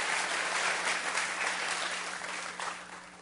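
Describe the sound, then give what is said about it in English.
A crowd at a service applauds its guests with dense, steady hand clapping that blends into a continuous wash of noise, holding fairly loud throughout and easing off slightly near the end. “We're going to give you another hand clap.”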